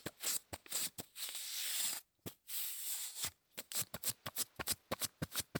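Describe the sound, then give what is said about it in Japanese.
Packing tape is patted onto a sweater and lifted away again in quick, crackly, sticky taps, fairly quiet, with a short pause before a faster run of pats. “というわけで今回お送りしたのは、ガムテープでセーターなんかをペタペタとする音でした。”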